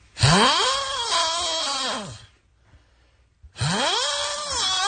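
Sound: man snoring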